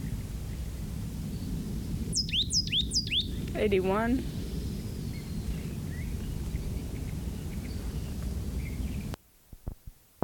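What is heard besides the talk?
plain titmouse singing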